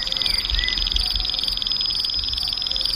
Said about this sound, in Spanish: Aquí los grillos grillan, el verbo grillar existe, que es una manera de decir estridular, que es la otra forma en que los insectos se comunican. Aquí hay varios insectos diferentes, varios grillos.